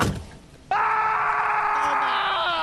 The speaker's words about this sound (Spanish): El grito de dolor.